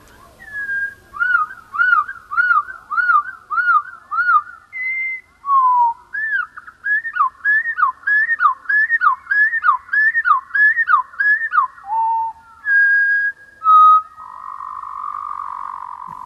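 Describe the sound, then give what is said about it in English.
Song of a bird common in parks and gardens, slowed to a quarter of its original speed so it plays four times longer: a long run of deep, drawn-out whistled notes repeating in rhythmic looping phrases, clear, with brief gaps and no talking. “So we can slow it down again to a quarter of the original speed, which means the song takes four times longer to play back, but again reveals even more information, although it's starting to sound quite tropical by now.”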